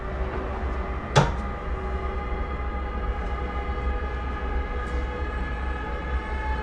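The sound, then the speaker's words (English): A single sharp bang against a hotel room wall rings out once early on, loud, over a steady low mechanical rumble and hum that continues throughout with no voices. “Can you please stop banging on the walls?”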